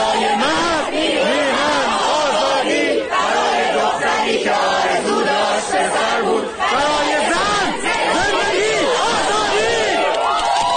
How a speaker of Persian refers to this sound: اما این فریادها و همخوانی‌ها محصول چیست؟